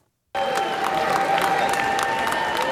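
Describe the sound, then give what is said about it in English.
Democratic lawmakers in a legislative chamber burst into loud, sustained applause after a moment of silence as a measure passes, dense clapping with cheers and shouts mixed in. “The Democrats were the ones cheering for this particular passage as this went down.”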